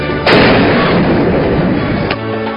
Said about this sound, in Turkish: Dördüncü ve beşinci kesik düdüğü duyduğum zaman eyvah bir şey olacak diyorum ki insanın duymadığı, bilmediği, deneyimi olmadığı bir sesle karşılaştık. Bu müthiş bir patlamaydı.